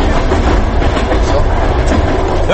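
Steady rumbling roar from inside a moving passenger train carriage on an Uzbek railway, with deep low-end vibration and a faint rhythmic clatter of wheels running continuously and loudly throughout.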